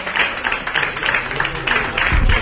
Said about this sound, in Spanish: Bueno, este aplauso de todo el público asistente.